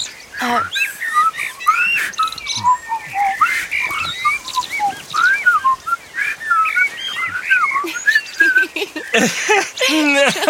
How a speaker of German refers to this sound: Gar nicht so einfach. Was das wohl für ein Vogel war? Keine Ahnung.